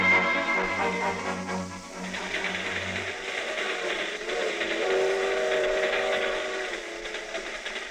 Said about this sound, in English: When's this here freight train get to Des Moines? This is a highball freight, kid. She's been hitting the high iron ever since we jumped aboard at Kansas City. You're in the outskirts of Des Moines now.